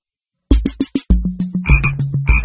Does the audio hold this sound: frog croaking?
yes